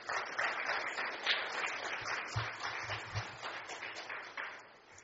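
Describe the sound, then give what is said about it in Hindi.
An audience claps steadily for about five seconds, a dense, even wash of many hands with slight swells and no voices on top. “आप सब भी ऐसे अच्छा है ताली बजाना, तो अपने लिए भी कि हमारा भी बाबा और सारा यज्ञ और विशेष दादी जानकी ने आप सबको याद दी है, इसलिए आपका भी बहुत बहुत स्वागत है।”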